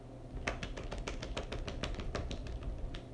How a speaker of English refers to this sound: That is literally the sound of one hand clapping. I have like some hypermobility things with my tendons and muscles in my arms and shoulders. So that's a fun thing that I can do.